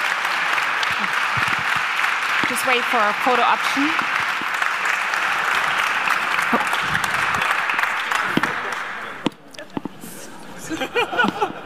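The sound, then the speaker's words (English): Sustained applause from a room full of journalists, loud and dense, continues for about nine seconds, then drops off abruptly as a few voices talk over scattered claps. “Big round of applause.”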